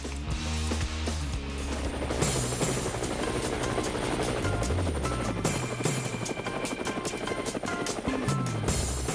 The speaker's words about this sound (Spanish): Bueno, las aspas del helicóptero nos indican que vamos a seguir a nuestra colega Exilda Arjona.